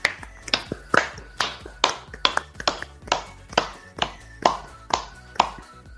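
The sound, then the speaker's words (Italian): One person clapping by hand in applause for the viewers of a late-night broadcast, about a dozen crisp claps at a steady, slightly uneven pace, with no voices over them. “Ma direi che comunque io ringrazierei anche tutti i nostri spettatori che ci hanno seguito questa sera, perché sono 5 all'una e siete comunque ancora tantissimi, e quindi un bel applauso, ve lo meritate.”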